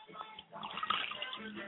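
water poured

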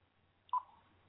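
telephone dialing tones

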